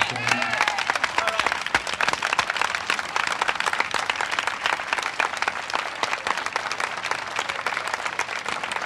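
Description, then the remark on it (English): A crowd bursts into sustained, dense applause for a musician, thousands of overlapping claps forming a loud, steady roar that holds for the whole stretch with only faint hints of voices underneath. “I want you to stand up for this one, because I want you to give as great a round of applause as he ever had in his life for ….”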